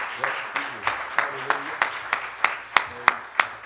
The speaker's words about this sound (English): Give the Lord one more hand clap. He deserves it.